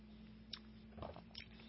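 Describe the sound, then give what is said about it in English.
A quiet sip of 90-proof whiskey (45% alcohol by volume): a few brief wet slurping and lip sounds spread over about two seconds, set against a steady low hum, with no one talking. “So I will take a sip here, and this is 90 proof, 45% alcohol by volume.”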